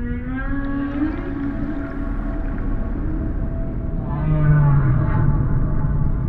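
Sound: whale song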